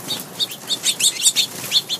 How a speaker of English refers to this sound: Then she'd play one of two recordings, either 3 minutes of bird-free outdoor sounds or 3 minutes of happy, peaceful bird chatter.